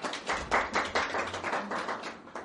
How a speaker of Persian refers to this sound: ممنون، بسیار عالی، خیلی خوب. تشویق کنید همه عزیزان رو.